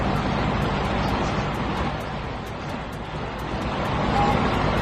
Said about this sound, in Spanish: Hacía semanas que no escuchábamos el sonido de estas cascadas, que aunque suenan parecidas a un río normal y corriente, son en realidad una riada de rocas y de fuego. Desde hace unas horas las coladas se están precipitando de nuevo por el acantilado